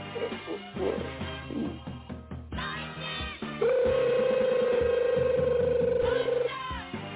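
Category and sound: household object, phone ringing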